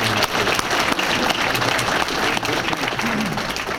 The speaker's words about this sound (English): Let's give these guys a round of applause for the first.